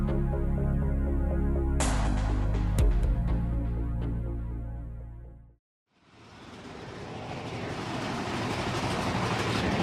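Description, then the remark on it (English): A Big Thunder Mountain roller coaster train, carrying riders about to go down the first drop, rattles along its track with a deep, throbbing mechanical rumble and scattered clacks, then briefly drops out before a loud, steady rushing roar takes over. No one speaks. “Okay, you're listening to me and my friends on Big Thunder Mountain. We're about to go down the first drop.”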